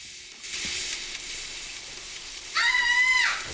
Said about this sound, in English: Millie's in the shower.